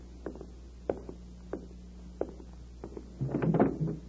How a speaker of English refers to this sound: Let me answer it by opening the door.